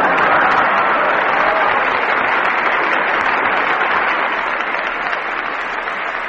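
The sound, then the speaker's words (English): Sustained audience applause as the character Falstaff leaves the stage, applauding himself, a dense, steady wash of many hands clapping that stays loud throughout and eases off slightly near the end, with no voices standing out. “And as Falstaff leaves applauding himself, Maestro Al Goodman, the oldest pixie in Local 802, raises his wand and presto.”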